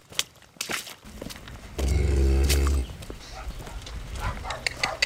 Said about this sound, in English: On a drizzly spring day, I slosh past cows and horses and up to the door of a farmhouse in East Anglia, about 25 miles north of London.